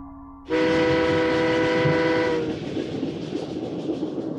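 A loud horn of a train on the Transatlantic railway blasts for about two seconds over the steady rumble of the moving train, then cuts off, leaving the rolling rattle of carriages on the rails.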